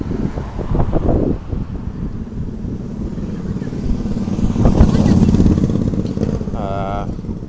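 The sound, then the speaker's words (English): A three-wheeled motorcycle rumbles past outdoors in Numazu, Japan, on a festival day, its engine swelling to a peak midway and then easing off, with wind buffeting the microphone and a brief voice near the end. “Three-wheel bike just motorcycle just drove past.”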